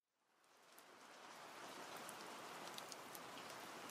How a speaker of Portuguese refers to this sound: Depois de meses de poucas chuvas e de reservatórios em baixa, elas vieram. Os meses de dezembro e janeiro registram volume de água recorde e consequências trágicas.